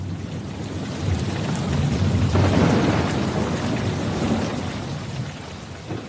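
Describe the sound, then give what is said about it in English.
A thunderstorm rumbles low and steady beneath dense, hissing rain pouring down heavily, swelling slightly in the middle and staying loud throughout, with no voices. “Lightning split the sky.”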